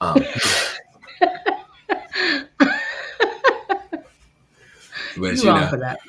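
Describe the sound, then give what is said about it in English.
A sharp, loud sneeze bursts out at the start, followed by a stretch of talking voices and then another forceful, sneeze-like burst near the end. “God bless you.”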